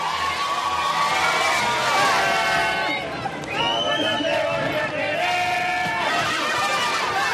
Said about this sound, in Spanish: Es un hotel que está a unos 30 kilómetros de Wembley, un hotel con campo de golf, el típico lugar idílico de la campiña inglesa. A pesar de la lejanía del centro de la ciudad, allí había bastantes aficionados que estaban aplaudiendo la llegada.